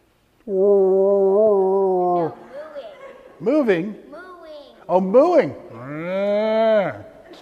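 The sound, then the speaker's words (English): A person imitates a cow, giving a long, steady low moo followed by a few shorter, swooping moo-like calls and a final drawn-out one, loud with brief pauses between. “Mooing.”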